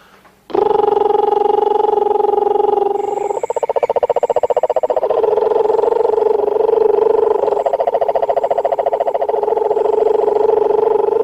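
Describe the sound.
A man, a doctor, imitates the mating call male toads use to attract females, with a long, loud, sustained buzzing trill at a steady mid pitch. It shifts slightly in tone partway through and continues unbroken for about ten seconds.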